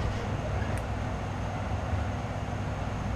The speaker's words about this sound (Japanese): なおこの列車特急列車となります。乗車券の他に特急券が必要となります。